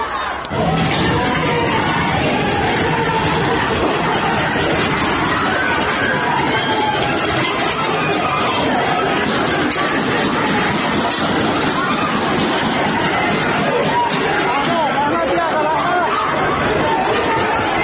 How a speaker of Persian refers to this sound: معترضان در تعداد قابل توجهی از خیابان‌ها و محله‌های تهران بر علیه جمهوری اسلامی شعار سر دادند